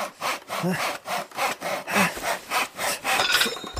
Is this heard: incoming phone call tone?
no